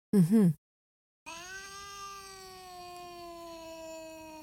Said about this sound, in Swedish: Mm-hmm. Hör du? Ja, just det. Typ sådana ljud. Låter för sig verkligen som en katt.